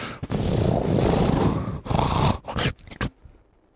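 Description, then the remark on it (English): A person vocally imitates loud snoring: a long, rough, rattling snore followed by a shorter one, ending in a few choppy snorts before cutting off into silence. “She does the, I'm snoring, and now I'm going to stop for no reason, and you'll think I'm dead for half an hour.”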